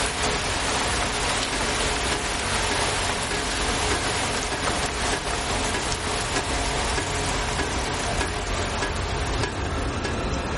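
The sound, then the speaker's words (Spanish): Heavy rain intensifies, pouring down in a dense, continuous hiss and drumming steadily on surfaces with no pauses and no voices. “La lluvia arrecia.”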